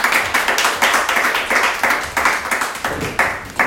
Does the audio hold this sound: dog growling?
no